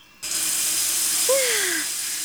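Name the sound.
shower water running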